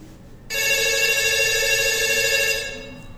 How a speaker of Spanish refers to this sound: Ángel en su casa llama por teléfono a Inara.